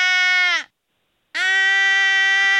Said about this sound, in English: That was him yawning on the air yesterday. Yes, I've heard that multiple times.